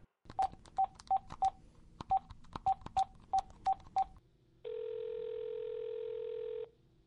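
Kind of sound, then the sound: signal or alarm, telephone keypad dialing tones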